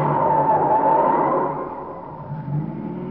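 A car engine hums steadily, with a brief tire squeal as the vehicle turns right at a corner on a dark street after midnight, then the motor settles into a lower, quieter drone as it keeps driving.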